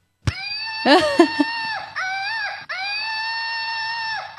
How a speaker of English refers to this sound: will be replaced by our screaming whoop monkey.